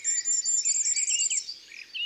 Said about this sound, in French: on entend un roitelet. C'est ce « si, si, si, si, si, si, si ». C'est le roitelet triple bandeau, le plus petit oiseau d'Europe. Son chant est très aigu, à la limite de ce que notre oreille peut entendre.